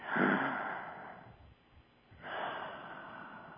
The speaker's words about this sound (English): And just continue watching. Continue breathing.